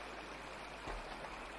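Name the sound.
flowing river water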